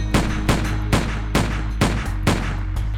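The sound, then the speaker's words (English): Six loud gunshots fired in quick succession on a London street outside a pub around 9:20 p.m., one sharp crack roughly every half second, each ringing out briefly over a low steady rumble, with no voices. “Six blasts rang out, one after another.”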